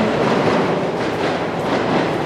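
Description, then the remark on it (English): A train rumbles past on the rails in Fukuoka, Japan, a steady, loud wash of rolling noise with faint clatter from the wheels, filling the whole moment without any voices. “All right, this place is too loud. Trains going by, sirens in the distance.”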